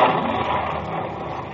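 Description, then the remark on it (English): A steady, loud engine roar that holds a broad, rushing tone throughout and fades only slightly at the end: Captain Malcolm Campbell's 1,450-horsepower car, the Bluebird, speeding down and back on a one-mile course on Ocean Beach, Daytona, Florida, reaching 245.733 miles an hour. No voices. “Captain Malcolm Campbell is driving his 1,450-horsepower speeding car, the Bluebird, down and back on a one-mile course.”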